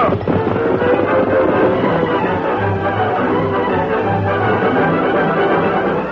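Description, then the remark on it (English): A heavy downpour pours down in a loud, steady roar that fills the whole stretch without letup, with a low rumbling undertone and no voices. “The storm had broken. As he hurried in from the downpour,”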